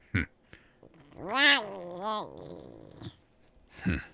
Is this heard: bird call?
no